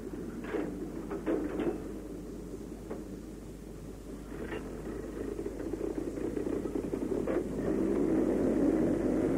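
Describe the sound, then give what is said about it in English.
Twin Merlin engines of Mosquito aircraft drone steadily in a deep, throaty rumble that swells slightly louder toward the end, with a few brief crackles cutting through, as the Mosquitoes set course for targets across Europe in 1943. No one speaks. “The distinctive sound of the twin Merlin engines could be heard 24 hours a day as Mosquitoes set course for targets all over Europe.”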